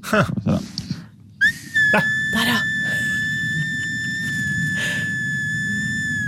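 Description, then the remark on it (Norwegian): After a brief spoken word, a hand-carved wooden whistle is blown, sounding one long, steady, high-pitched note that holds for about five seconds over a soft, rustling background. “Ja, jeg skjønner at Kjell Ivar med sin parasoll og sovende kone vel å holde fløytelyden på et lavt nivå.”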